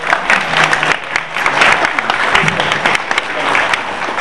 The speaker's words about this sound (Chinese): 好，我们介绍我们CCSP 的这些 board member， 指数们请站起来好吗？我们请大家，我们两个家，我们向互相拍手来欢迎一下，好不好？